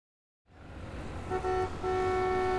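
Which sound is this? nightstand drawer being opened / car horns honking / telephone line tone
car horns honking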